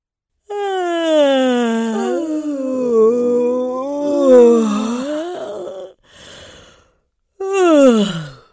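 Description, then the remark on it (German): A long, loud, open-mouthed yawn voiced from a hazelnut bush at dawn. Its pitch wavers and slides down into a breathy exhale, then comes a short huff and the start of another drawn-out yawn. “Konnte man ein großmauliges Gähnen aus dem Haselnussstrauch vernehmen.”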